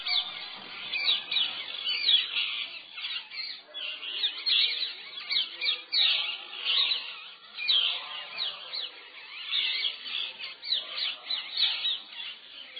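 parrots calling

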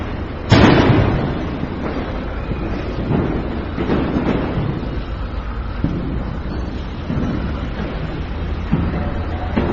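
firecrackers exploding outside

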